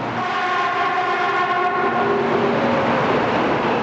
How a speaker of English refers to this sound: Over the past decade, it has spent billions of dollars on public works projects, new airports, new bridges, and bullet trains like this one that link even small cities with Tokyo.